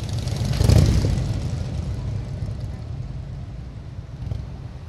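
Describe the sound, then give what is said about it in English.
A funeral procession rolls through Pittsfield, Massachusetts: a hearse led by a Massachusetts State Police cruiser, a Dalton Police cruiser and veteran motorcycle riders, a steady low engine rumble with one louder vehicle swelling by early on and another faint surge near the end. “The hearse was led through Pittsfield by a Massachusetts State Police cruiser, a Dalton Police cruiser, and riders with the Patriot Guard, a group of veteran motorcycle riders that honors fallen U.S.”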